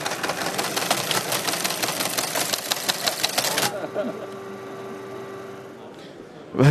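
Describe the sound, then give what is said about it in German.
An old Lorenz LO15 teleprinter from the 1960s clatters away rapidly, printing out a text message sent to it by SMS: a dense, rhythmic mechanical chatter of striking keys that stops abruptly after a few seconds, leaving a low motor hum and a brief clunk at the end. “Ich werde jetzt eine SMS schicken, die dann an dem Gerät da ausgedruckt wird.”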